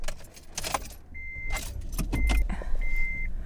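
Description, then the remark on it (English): A lineup of cars idling at a COVID testing site at a school in Redwood Valley, about 10:30 in the morning, with a low engine rumble, jangling keys, and a few short electronic chime beeps repeating; no one speaks. “And we are here about 10:30 in the morning, and there's quite a lineup of cars, and I am going to get tested to see if I have COVID”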